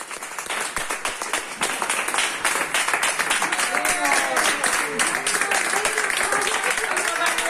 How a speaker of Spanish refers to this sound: Los aplausos que le daba el personal sanitario, las mujeres y los hombres que le han estado cuidando durante estos 56 días, días en los que estuvo al límite, sobre todo en las dos primeras semanas.